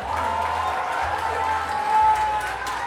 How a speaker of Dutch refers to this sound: Ik wil graag een heel hartelijk applaus voor de Zwarte Schapen.